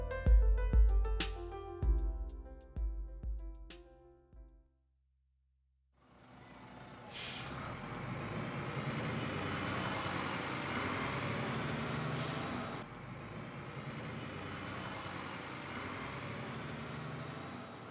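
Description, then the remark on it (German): A few ringing tonal notes open, then after a brief silence a bus carrying three pupils to school drones steadily, broken by two sharp bursts of air-brake hiss. No one speaks. “Drei Schüler sitzen im Bus und fahren zur Schule.”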